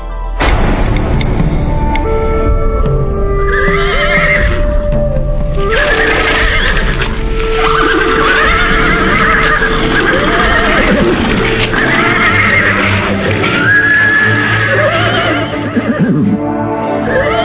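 Several horses whinny and neigh repeatedly, loud, with hooves clip-clopping underneath and a steady background din, as riders dismount from their horses; no one speaks.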